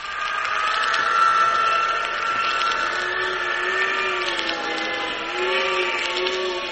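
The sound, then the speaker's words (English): A wind tunnel blasts air at a full-size plane, tossing it around: a loud, steady mechanical roar of rushing air with a droning fan hum whose pitch wavers slightly, holding strong for several seconds with no voices. “It's a full-size plane, and yet that wind is tossing it around like it was a cork almost.”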